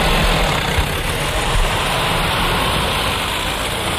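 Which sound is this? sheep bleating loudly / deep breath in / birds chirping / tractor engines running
tractor engines running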